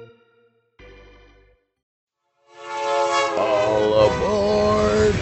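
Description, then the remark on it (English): A loud, sustained train horn blares over the low rumble of a rolling train, after a short, quieter tonal blast and a moment of silence, as the sound effect opening the Ravage Train segment with ESPN's Carl Ravage. “It's the Ravage Train with Carl Ravage.”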